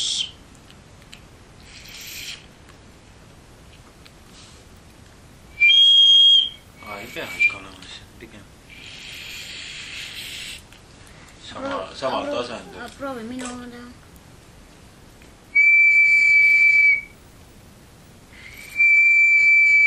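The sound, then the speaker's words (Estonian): A homemade wooden whistle blown in three shrill, steady-pitched bursts, the last two longer, with people talking quietly in between. “See tuulekanal peab natuke nagu peal pool olema.”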